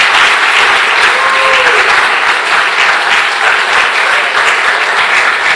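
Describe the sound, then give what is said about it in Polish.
Steady, loud applause from a large audience, a dense wash of clapping hands that holds at an even level for several seconds without pause. “Może jakieś brawa dla nich tutaj przy okazji, tak?”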